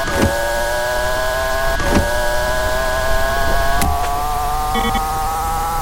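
A steady, buzzy racing video game car engine drones loudly throughout as the player holds down the up arrow, its pitch slowly climbing as it accelerates, with a few sharp clicks along the way and no talking.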